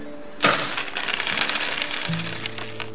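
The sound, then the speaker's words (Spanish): A pile of gold coins spills and clinks, starting with a sharp metallic burst and then jingling and ringing on steadily for a couple of seconds, close and fairly loud, with no voices. “Imaginemos que el banco posee una cantidad total de, digamos, 100 monedas de oro.”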